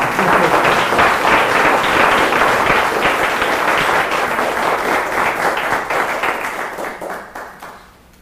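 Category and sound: crowd, audience applauding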